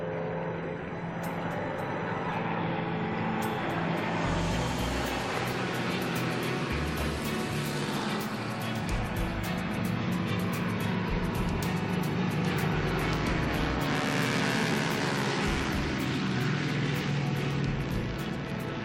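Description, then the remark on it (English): A loud, continuous roar of several small propeller planes from Yellowknife aviation companies flying over in formation in a memorial flyby, the engine drone swelling and lingering throughout with no voices. “Every aviation company in Yellowknife, with a plane and pilot to spare, pays its respects.”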